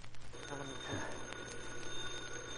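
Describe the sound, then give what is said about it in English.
An old-fashioned telephone bell rings steadily, a rapid metallic trill sustained through the moment, heard fairly quietly over a low background hum with no one speaking. “Holy crow, who's phoning at this hour?”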